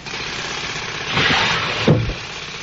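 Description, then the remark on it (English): Steady street traffic rumble with engine noise, swelling as a vehicle passes mid-clip, followed by a brief low engine rev or squeal near the end; no voices. “And the traffic on the street.”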